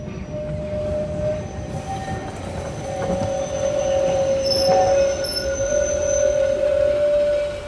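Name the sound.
train running on rails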